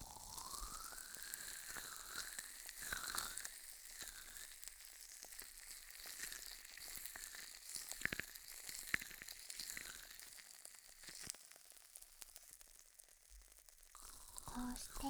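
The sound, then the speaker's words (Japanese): A steady, bright fizzing hiss runs throughout, peppered with irregular crackles and sharper pops that flare up now and then, especially around the middle, at a fairly even moderate loudness. “シュワシュワ？じゃあ、こうすると、パチパチ？”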